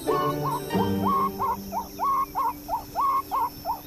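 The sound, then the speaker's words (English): An animal's alarm call warning of a bird of prey approaching fast: about ten sharp, whistled yelps repeated in a quick, steady rhythm, loud, over a low background hum. “This sound means bird of prey approaching fast.”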